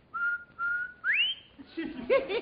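A person whistles a short tune: two steady held notes, then a quick upward slide, followed by a few looser, warbling notes toward the end.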